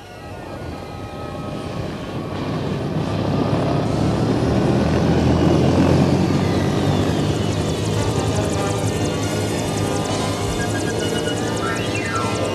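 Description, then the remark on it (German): A helicopter's rotor drones steadily as frogmen hurry back to it, swelling louder over the first few seconds and then holding a dense, thrumming roar with a whining engine tone on top. No voices. “Jetzt eilen sie wieder zum Hubschrauber.”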